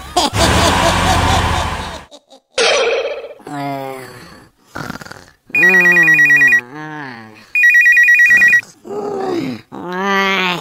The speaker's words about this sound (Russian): Телефон, проклятие человечества! Алло, кто там еще жив?